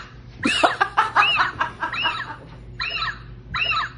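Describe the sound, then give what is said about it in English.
A robotic toy owl hoots in a squeaky, electronic way: a quick run of warbling, rising-and-falling calls, then two more spaced bursts, fairly loud, with no one talking. “I would put your robotic hoot. You just voice track the hoot.”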